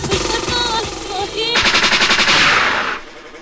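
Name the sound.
gunshot sound effect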